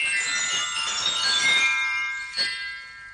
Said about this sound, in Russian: В одно мгновение Пружинка с силой развелась, валик быстро завертелся, молоточки часто застучали, колокольчики заиграли дребедень.